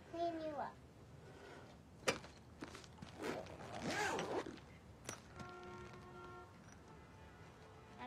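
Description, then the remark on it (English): A zipper rasps shut in one quick pull on a small white toiletry bag with pink hearts, after a bottle of amber-colored body oil is dropped back inside, with a couple of soft knocks around it and a young child's babbling at the start and end. “She stares at it, drops it back into the pouch, and zips it shut.”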